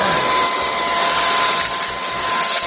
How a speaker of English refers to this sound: Chef Baby was vacuuming and he vacuumed up the pieces to the bracelet